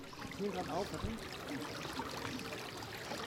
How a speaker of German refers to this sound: In den Kranachhöfen fließen wie eh und je Brunnen und ein Bach plätschert durch die Innenstadt in Richtung Schlosskirche.